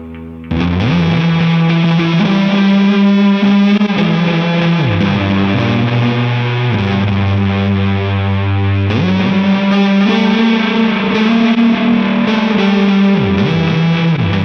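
A heavily fuzzed electric guitar played through a Big Muff fuzz pedal into a delay sustains thick, saturated notes with echoing repeats trailing behind, playing a slow melodic line loudly and continuously with no talking.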